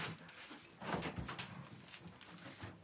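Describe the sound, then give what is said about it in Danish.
A door swings shut with a short, soft thump and a brief rattle, fairly quiet, with faint shuffling before and after and no one speaking. “Så lukker vi lige døren.”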